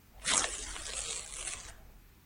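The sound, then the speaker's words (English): A fairly loud rip of a paper envelope being torn open in one continuous, crackly pull lasting over a second, with no talking. “Oh, why not just rip it off? That feels disrespectful. It's such nice paper.”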